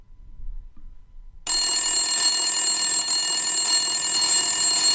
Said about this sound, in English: You have set the alarm to wake yourself up early.